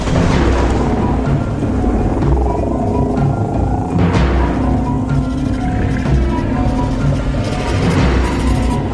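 A thunderstorm with deep, rolling thunder rumbling continuously and loudly, layered over a steady hiss like heavy rain, with no one speaking.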